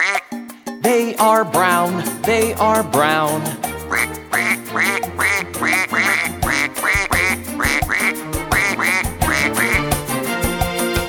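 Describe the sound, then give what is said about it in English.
A duck on a farm quacks loudly in a long, steady run of short, repeated quacks, following a brief spoken phrase at the start. “There's a duck on the farm with her three little ducklings.”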